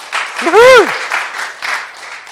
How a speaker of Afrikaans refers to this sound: werk baie hard deur die week en hulle het 'n fantastiese tyd vir ons in worship. Ons vir hulle sommer 'n hande klap gee net om dankie te sê.